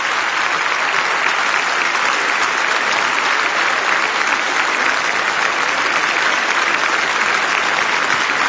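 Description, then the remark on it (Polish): Sustained, loud applause from a large crowd for Cardinal Tarcisio Bertone, a dense steady wash of clapping that holds at an even level for the whole stretch without pausing or fading. “Nie kończą się oklaski.”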